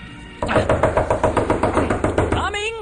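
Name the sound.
knocking on a door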